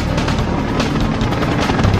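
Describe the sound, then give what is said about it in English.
A helicopter roars overhead, its steady rotor thump and engine whine filling the air loudly and continuously with no voices. “You guys back off and give that chopper some room.”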